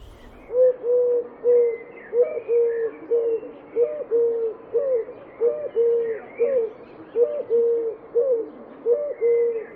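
eurasian collared dove cooing

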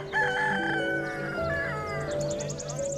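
rooster crowing

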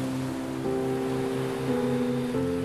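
ocean waves and surf

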